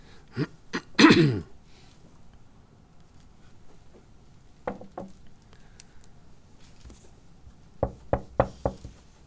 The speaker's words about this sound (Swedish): Det knackar. Det är mitt i natten. Alla ligger och sover. Läraren går upp och öppnar dörren. Utanför står en av hans elever.